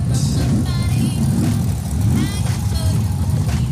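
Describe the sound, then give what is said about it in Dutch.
Loud, continuous roar of several car engines revving at a car race, rising and falling in pitch over a deep rumble, with indistinct voices mixed in. “Ik zie gelukkig ook nog wat auto's die wel kunnen rijden.”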